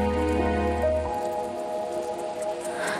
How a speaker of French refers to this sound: bien sûr, la fenêtre ouverte laisse passer, un parfum peut-être, c'est la pluie d'été.